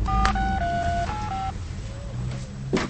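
Someone picks up a cordless phone receiver and dials a call; the keypad beeps out about five dialing tones in quick succession, clear, followed by a quiet stretch of low room hum and a soft click.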